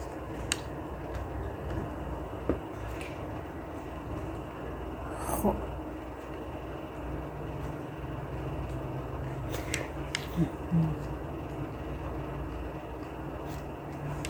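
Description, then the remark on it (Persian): Pages of a book are turned by hand while browsing its authored section, a handful of soft, brief papery rustles spaced irregularly over a steady low background hiss, fairly quiet. “الان که دارم این بخش تألیفی کتاب و ورق میزنم خیلی چیزای جالبی دارم میبینم.”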